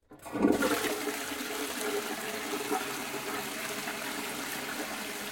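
A toilet flushes, starting with a sudden rush of water that settles into a steady, loud gushing swirl as the bowl drains and refills.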